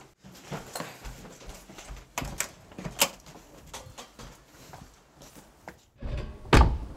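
A series of clicks, knocks and rattles from the handle and lock of a back door, then a heavy thud near the end as the door is shut firmly and locked. No one speaks.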